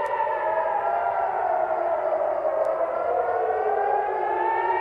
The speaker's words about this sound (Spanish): De inmediato, los combatientes palestinos lanzaron desde Gaza decenas de misiles contra la zona sur de Israel y también contra la zona de Tel Aviv, donde podían oírse las alarmas antiaéreas.